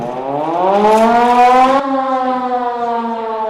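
An air-raid siren wails steadily, its harmonic-rich tone rising in pitch for nearly two seconds, then holding a sustained loud drone, signalling people to go down into the shelter. No one speaks.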